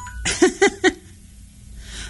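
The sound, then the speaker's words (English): A timer goes off with three quick, evenly spaced electronic beeps, fairly loud and buzzy, followed by a low background hiss. “Uh-oh. Timer went off.”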